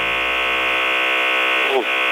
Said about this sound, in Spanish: Arrancó el torno. El torno. Eso me da más miedo que cualquier extraterrestre. ¿Es un torno? ¿Está operando en este momento, doctor? No tengo nada prendido, ningún aparato prendido.